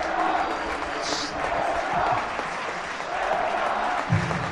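crowd, stadium crowd applauding

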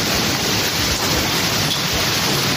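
nature, heavy rain with thunder

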